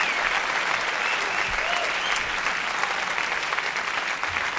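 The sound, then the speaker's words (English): A concert crowd applauds steadily after a cover of another artist's song, a dense, even roar of many hands clapping at once with no pauses, holding loud throughout. “Et voilà, mais les gens, ils applaudissent, alors ils n'écoutent pas.”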